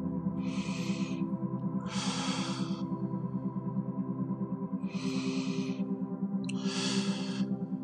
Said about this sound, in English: You hear Daddy's breathing in your ear.